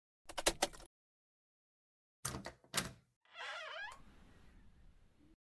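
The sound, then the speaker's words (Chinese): A man in a suit and mask pushes a door open and walks in: a quick rattle of the latch, a pause, two heavy knocks, then a high creaking squeak as it swings, trailing into faint rustle. “这时一个戴着面具的西装男推开门走了进来”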